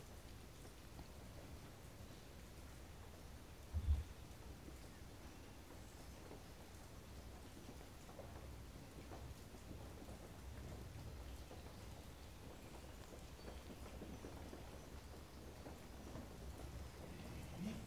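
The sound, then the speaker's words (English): Steady rain falls in a soft, continuous hiss that never lets up, with a low rumble underneath and a brief thump early on. No one speaks. “Just as the rain falls everywhere and then trickles in even more.”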